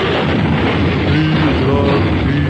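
A loud, sustained crash of two cars colliding on a busy square with heavy traffic: dense crunching, rumbling noise that holds steady for a couple of seconds, with faint wavering tones woven through the din and no voices.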